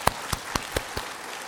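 A brief burst of applause from a church audience giving glory to God: about five sharp, even claps stand out in a steady rhythm over a soft rustling wash, tapering off quickly with no voices.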